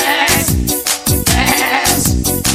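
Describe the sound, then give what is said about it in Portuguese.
A goat bleats loudly in a rapid string of wavering, harsh cries, each call sliding downward in pitch, with no talking. “Tem que receitar o bode.”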